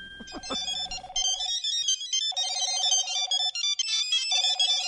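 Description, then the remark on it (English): An electronic cell phone ringtone plays a bright, repeating melodic pattern with steady pulsing tones, looping several times, clear with no talking. “Oh, cell phone ringing, obviously, right?”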